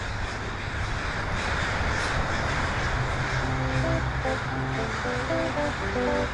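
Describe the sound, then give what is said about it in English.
Many crows caw repeatedly and overlap in a noisy, continuous chorus over a steady rushing background hiss as they rise one by one from a tennis court in Bothell and fly toward the trees, the harsh calls growing busier toward the end. No one speaks. “We stand quietly and watch as one by one the crows on the tennis court rise into the air and head for the trees.”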